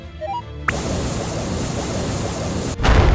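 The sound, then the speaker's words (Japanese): A big explosion bursts in abruptly after a few soft tones, becoming a loud, sustained roaring rumble, then a second heavy blast hits near the end. “あ、大爆発。”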